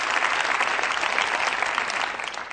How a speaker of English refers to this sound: Come on, clap your hands right now.